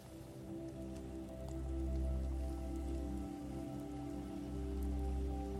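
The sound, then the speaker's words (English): Ocean waves wash steadily, a low rumbling surf that swells and eases back in slow surges, with a soft hiss throughout and no voices. “Continue to notice the warmth of the fire and the sound of the ocean in the background as you perform this ritual of release.”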